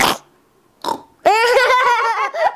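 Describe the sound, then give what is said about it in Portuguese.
In a studio, a voice imitates a piglet: two short breathy snorts, then a longer, loud, rough grunting squeal with a buzzing, pulsing tone that rises and wavers before cutting off. “Senhoras e senhores, aqui tem um porquinho, ou melhor, uma porquinha no nosso estúdio.”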